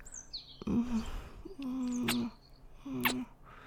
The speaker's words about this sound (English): The sound of the birds chirping outside.